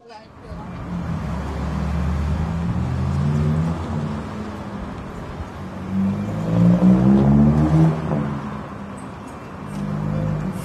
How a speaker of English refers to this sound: Yeah, so why on a bus at midnight? In fact, actually, 12:30. And I think this is not just a bus, but it's a workplace. It's a place in between work as well, in the late hours of the night.